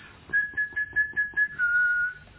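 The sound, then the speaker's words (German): A person whistles an imitation of a yellowhammer's song: a quick series of about seven short repeated notes followed by one long, slightly lower held note, clear. “Goldammer zum Beispiel, den Schlag kennen Sie sicher, nicht wahr? Ich will mal versuchen zu pfeifen.”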